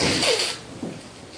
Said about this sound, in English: Excuse me. I blow my nose.